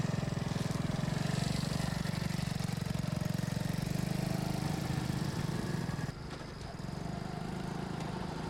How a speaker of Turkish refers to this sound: Sanki pişmanlık duyuyormuş gibi arkasına baktı, karar verme aşamasında ve motorunu yavaşça geldiği yöne döndürerek uzaklaştı.